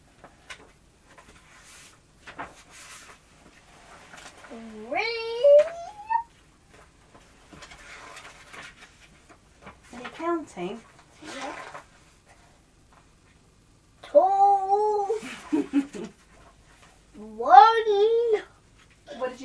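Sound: imitated cat meowing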